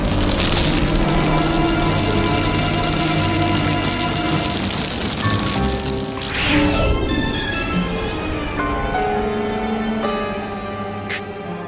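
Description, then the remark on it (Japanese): A sharp punch lands with a loud smack midway through a close-range fight, the struck fighter twisting his own neck to deflect its force, cutting through a dense, roaring background; a second, briefer hit cracks near the end. “ねじって、 自分で首をねじってパンチの威力を流しやがった。”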